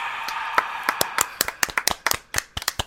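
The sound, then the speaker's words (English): A single person claps their hands repeatedly in an uneven, quickening rhythm, each sharp crack fairly loud over a faint hiss, roughly fifteen claps in a few seconds with no voices. “I just applauded for myself.”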